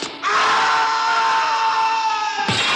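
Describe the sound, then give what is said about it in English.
A single long, loud scream during a fall in a film holds steady for over two seconds with a strained, harmonic tone, then breaks off abruptly into a brief noisy burst. “Best fall in a while on Film Sack.”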